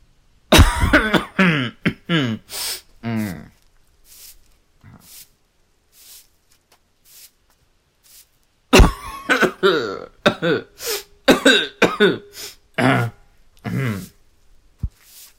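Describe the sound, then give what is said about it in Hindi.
Harsh, repeated coughing at around 6 in the morning in two loud bursts, each a cluster of rough hacking coughs with throaty clearing, separated by a quiet stretch of faint breathy sounds. Forceful, with no talking. “सुबह के करीब 6 बजे खांसी की इस आवाज ने अक्षय और विनय को हड़बड़ाहट में उठा दिया।”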